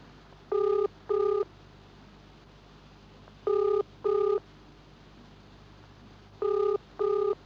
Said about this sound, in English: I'm ringing the garage.